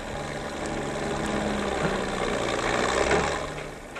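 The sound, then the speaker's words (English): A crude early farm tractor, the first tractor on the farm, runs steadily with a rough, low chugging drone, loud, holding a constant rumble throughout with no voices. “A revolution in agriculture, and the crude, chugging first tractor on the farm was the prologue.”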